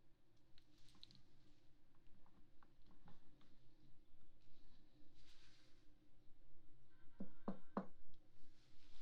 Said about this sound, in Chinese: 进来啊，自己家里还敲门，怎么了？